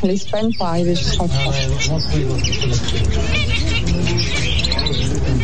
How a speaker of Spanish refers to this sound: En el centro de París, en la isla de la Cité, existía cada domingo el mercado de pájaros, una venta con centenares de jaulas repletas de aves domésticas, pero también silvestres.